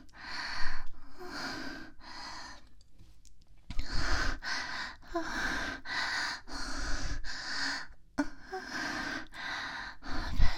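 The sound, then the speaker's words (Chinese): Heavy breathing in a steady rhythm of deep, loud inhales and exhales, breathy and slightly snorting, with no talking, about a dozen breaths in all. “让自己听听你重重的呼吸声，好幸福，自己真的好幸福。”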